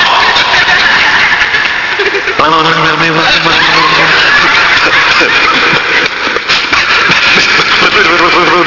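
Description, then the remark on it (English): A voice imitates a car engine that keeps running after shutoff, producing a loud, continuous sputtering rumble with wavering tones that persists for several seconds without stopping. “Sometimes the motor will not turn off.”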